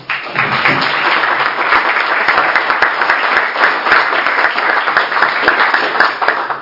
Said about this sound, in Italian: Grazie, la parola a Mr. Strauss-Kahn. Grazie ancora, benvenuto, un applauso.